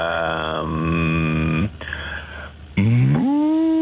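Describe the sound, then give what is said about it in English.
A person imitates a cow with two drawn-out, nasal moos, the first long and wavering, the second rising in pitch after a brief pause; loud, with no other talk. “you probably didn't want to do a cow noise when I said …”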